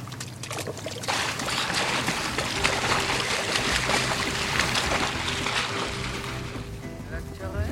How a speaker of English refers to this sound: The lifeboat. Look at you all driving a rescue boat.